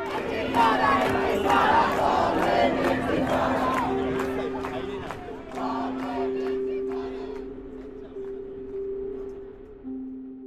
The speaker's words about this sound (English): When the protests on Columbia's campus started, we were already hearing "Globalize the Intifada" from New York to Gaza. And this movement on campus continues to scream "Intifada Revolution," and there is only one solution, right? Intifada Revolution.